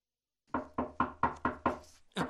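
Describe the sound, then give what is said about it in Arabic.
Firm knocking on the wooden door of a neighbour's home: six quick, evenly spaced raps, loud, followed by a brief pause and one more knock. “ولما وصلا طرقت أم همام الباب.”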